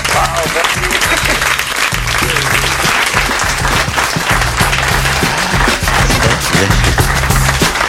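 Steady, dense applause from an audience fills the whole stretch, loud and close, with a rapid texture of many hands clapping and low rhythmic thumps underneath.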